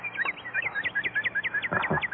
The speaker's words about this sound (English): There you are, a cardinal. Tell them this is something pretty scarce.